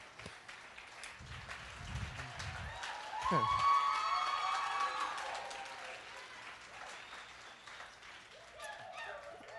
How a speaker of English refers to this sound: The slow clap.